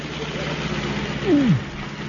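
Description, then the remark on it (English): Heavy lorry engines rumble steadily at a low idle, and a brief whine slides downward in pitch partway through before the drone carries on. “5 weeks of travel saw the lorries well on their way.”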